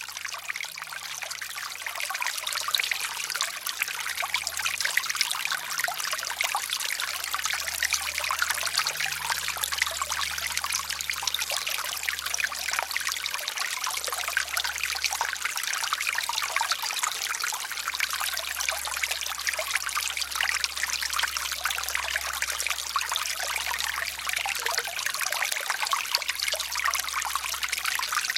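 The Kienbach, a mountain stream in Bavaria, bubbles and trickles steadily where it comes out of its spring, its bright, continuous rush of water flowing without pause, with a faint low rumble underneath and no voices.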